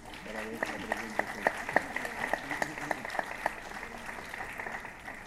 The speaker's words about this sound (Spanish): La recibimos a la doctora con el cariño de siempre en este lugar y con un gran aplauso.